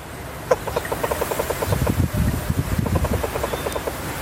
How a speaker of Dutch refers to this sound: de Amerikaanse reuzenpad, die 20 centimeter groot is.